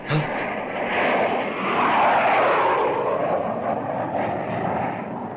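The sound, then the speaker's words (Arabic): A loud, steady roar of a low-flying enemy airplane passes overhead, its engine drone swelling slightly in the middle and holding strong throughout, with no talking. “انبطحا أرضا، انبطحا أرضا، هذه طائرة للعدو دخلت علينا.”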